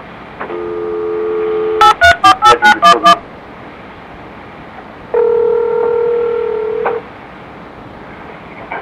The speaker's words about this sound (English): Returning a phone call.